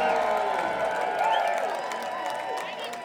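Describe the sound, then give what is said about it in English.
A large concert audience at the Cedar in Minneapolis, at a winter string band gathering, claps and cheers for the headlining band. It is a dense, continuous roar, with scattered whoops and shouting voices rising above the steady applause throughout. “Please give a huge round of applause for your local heroes,”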